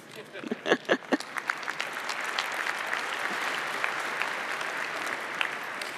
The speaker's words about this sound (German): Vielen, vielen, vielen herzlichen Dank noch einmal für diesen Vortrag. Einen ganz herzlichen Applaus bitte nochmal. Applaus